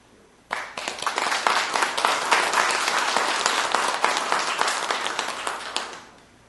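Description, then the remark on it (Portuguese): An audience at a municipal chamber (Câmara) session bursts into sustained applause for a doctor, many hands clapping densely and steadily for about five seconds before it tapers off. No one speaks over it. “Assim, uma salva de palmas para o doutor.”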